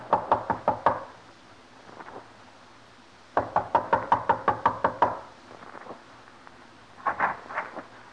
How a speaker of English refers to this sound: A knock.